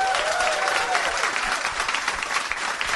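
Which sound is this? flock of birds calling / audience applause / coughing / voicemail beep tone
audience applause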